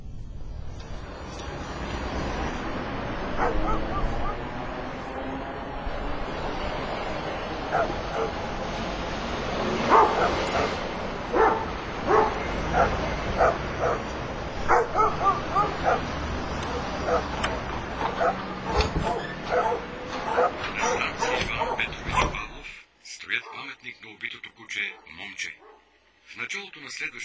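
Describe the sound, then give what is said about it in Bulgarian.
A pack of dogs in a city barks and yips in a dense, overlapping chorus for over twenty seconds, loud, with sharp repeated yelps, before the noise abruptly drops away to a quieter tail. “Този град е град на кучета.”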